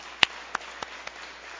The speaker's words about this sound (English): And then again, just give a hand of applause to the Lord Jesus Christ.